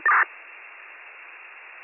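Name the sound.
fire dispatch alert tones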